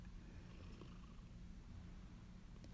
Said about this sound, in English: I notice that my cat is purring quite heavily on my lap, and it's possible you might hear him in this recording too.